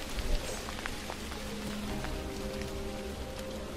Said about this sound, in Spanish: El violento temporal se ha resuelto en una lluvia persistente, ahora leve hasta casi desaparecer, ahora intensa, con repentina furia.